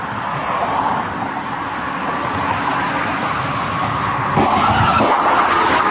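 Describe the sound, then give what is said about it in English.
A car's tires skid with a steady, harsh roar, then a loud crash hits near the end as the car purposely rams a police cruiser during a traffic stop in Fairview Heights, followed by another jolt of impact noise. No one speaks. “we've got a suspect arrested after purposely crashing into a Fairview Heights police cruiser during a traffic stop.”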